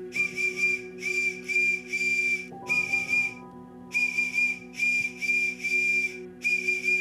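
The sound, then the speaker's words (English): A shrill whistle blown out of a window in a series of short and longer blasts as an SOS distress signal to someone riding past the house. The pattern repeats loudly over a steady low background hum, with no talking. “I'm gonna blow this SOS and flash this light out the window.”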